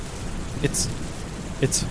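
Steady rain hisses throughout at moderate volume, with two brief, brighter splashes or crackles about a second apart; no clear thunder rumble stands out.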